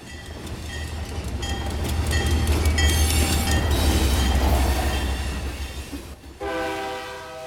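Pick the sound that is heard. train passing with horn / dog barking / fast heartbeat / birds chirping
train passing with horn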